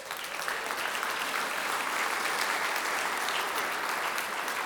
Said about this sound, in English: Moms, thank you for everything. Can we give a round of applause for our mothers in the house?